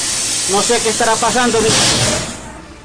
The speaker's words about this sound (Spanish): En estos momentos, aquí en la calle 23B con carrera 13 Sur, Hay un corto. Se cayó un cable de alta tensión. Un cable de alta tensión, como ustedes lo pueden ver, dentro de una casa.